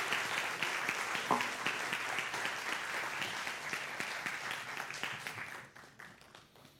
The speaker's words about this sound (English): If y'all would please come up on stage. If you would please give them one more round of applause as they come up on stage with us.